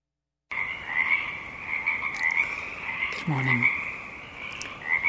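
A steady, dense chorus of frogs trilling and croaking across a marsh as the darkness recedes, with a lower croak briefly standing out midway and faint higher calls scattered above the continuous drone.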